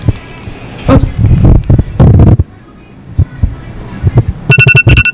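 Loud, bursty voices and commotion fill the first half, then a bright electronic phone alarm ringtone starts near the end, a rapid string of high, evenly pulsed beeps.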